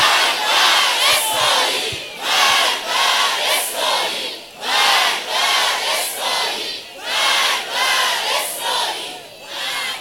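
A large crowd chants a slogan against Israel in unison, loud rhythmic bursts of shouting repeating roughly every second, steady and forceful throughout with no other sounds.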